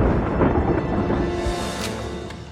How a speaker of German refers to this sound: Wenn sie in einem Tal sind, sehen sie das Unwetter erst, wenn es direkt über ihnen ist.